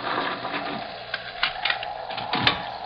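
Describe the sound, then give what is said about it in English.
Heavy doors being unbarred to let visitors in: a series of wooden clunks and knocks with scraping and rattling in between, building to a louder thud near the end, with no talking. “One moment, gentlemen. I'll unbar the doors.”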